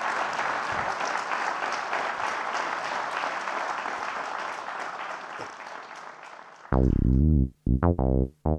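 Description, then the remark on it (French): A crowd claps steadily for several seconds for the speakers during a change of interpreters, a dense, even patter; then the applause cuts off and a loud, low-pitched tonal hum or buzz takes over with brief gaps. “Je vais leur laisser le temps d'échanger la place pour applaudir d'abord, pour l'instant, les intervenants.”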